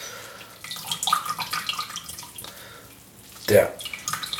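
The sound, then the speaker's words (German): Water trickles and drips from a large soaked bread roll being squeezed out, a wet patter running for a couple of seconds. It eases off, then a short louder splash follows near the end, with faint voice sounds. “jetzt könnte ich tapferer Schneiderlein spielen, ne?”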